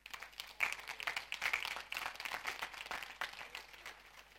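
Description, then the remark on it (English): An audience claps their hands in a dense, steady burst of applause that carries on for several seconds, many hands overlapping, with no voices. “Let's clap our hands.”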